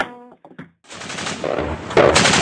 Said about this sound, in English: As Syrian government warplanes fly overhead, rebels take pot shots with aging anti-aircraft guns strapped to the back of trucks.